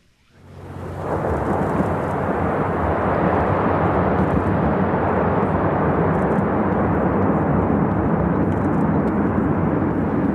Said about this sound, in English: Whole sections of the glacier face just fell away into the sea. Huge waves now rocking the boat. There's more. Great chunks of ice fell into the water, then raised up again like a broaching submarine to float as small icebergs.